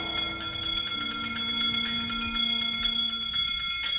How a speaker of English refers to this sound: Wizards and witches, wherever you dwell, give us a hint by ringing a bell.